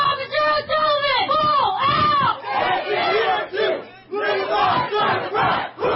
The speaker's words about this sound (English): A vigil was held in Sacramento for Officer Tara O'Sullivan after she was shot and killed while responding to a domestic violence call Wednesday night. At her vigil, fellow officers chanted in her honor.